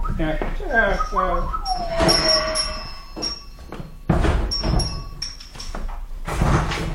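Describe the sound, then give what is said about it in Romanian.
A door is pushed shut with a few heavy knocks and rattling clicks, like a latch or lock being worked, with some faint squeaks and a brief voice-like sound early on. “Te pentru ce e încuie ușa?”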